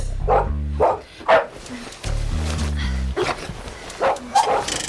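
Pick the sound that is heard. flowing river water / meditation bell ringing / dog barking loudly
dog barking loudly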